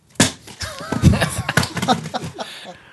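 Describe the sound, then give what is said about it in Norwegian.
A dice-rolling sound effect: a quick run of sharp, clattering knocks and taps, bunched irregularly over about three seconds, fairly loud at first and then tapering off, with no talking. The dice throw comes up six. “Vent litt, vi glemte terningeffekten først.”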